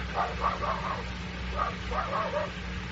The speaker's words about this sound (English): That dog is barking the same way he barked. It was the same dog outside the cell.